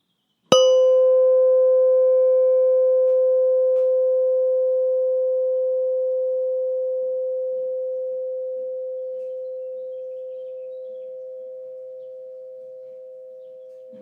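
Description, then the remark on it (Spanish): A single bell is struck once, a clear ringing tone that sustains and slowly fades away over many seconds, heard alone in quiet surroundings. “Ahora escucharás el sonido de una campana.”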